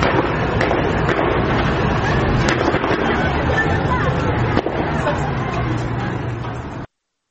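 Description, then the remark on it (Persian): Gunfire as security forces shoot at students at the Yazdanpanah boys' technical and vocational university in Kurdistan: a few sharp cracks ring out at irregular intervals over a dense, noisy crowd hubbub, with people shouting and talking throughout. “همچنین نیروهای امنیتی به دانشجویان دانشگاه فنی و حرفه‌ای پسران یزدانپناه کردستان هم حمله کردند، به اونها تیراندازی کردن و دانشجوها رو در دانشگاه حبس کردن.”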